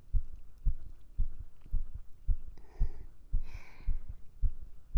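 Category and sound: human body sound, fast heartbeat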